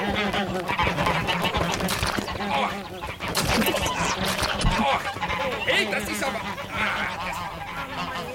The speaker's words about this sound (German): Ach, guck doch mal, Bernd. Die Enten.